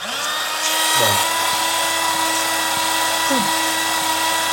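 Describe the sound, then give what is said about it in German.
A paper shredder runs steadily, a loud, continuous mechanical whirring and grinding with a steady low hum, briefly dipping and rising in pitch a couple of times. No one speaks. “Wir schreddern eure Millionen.”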